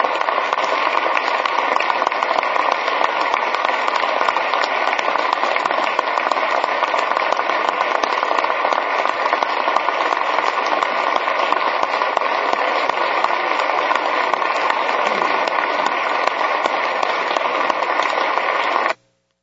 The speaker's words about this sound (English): We applaud you. Thank you.